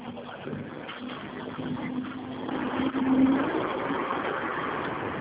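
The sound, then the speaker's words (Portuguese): A heavy engine rumbles as a truck passes during a phone call, its steady drone swelling to a peak around the middle and then holding on; no one speaks. “Está passando um caminhão aqui. Eu não vou te ouvir.”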